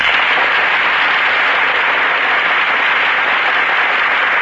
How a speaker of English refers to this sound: And here come the stars. The audience breaks into applause as Joan Blondell and Melvin Douglas enter our Gulf Theater stage.